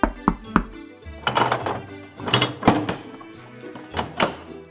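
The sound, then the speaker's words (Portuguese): Knocking on the door of a house: a few hollow, fairly loud thuds spaced irregularly, with a busier tonal background layered over the later knocks. “Por que bates na minha porta?”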